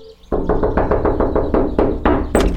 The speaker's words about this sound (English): So I guess we should just knock on the door. Can you knock?